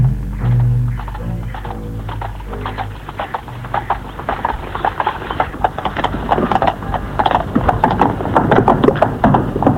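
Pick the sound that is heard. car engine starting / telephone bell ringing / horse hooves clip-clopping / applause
horse hooves clip-clopping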